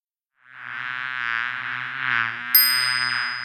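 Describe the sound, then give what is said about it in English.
Three bees in a tree buzz in a steady droning hum that swells slightly and never stops, joined near the end by a bright, sustained chime. No one speaks. “There are 3 bees in the tree. Those bees like to fly in threes.”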